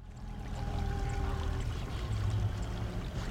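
A small charter boat's motor drones steadily as it comes into the harbor on flat calm Portage Cove in Haines, Alaska, a low rumble with a faint whine on top and some water sloshing underneath, holding an even loudness throughout with no voices.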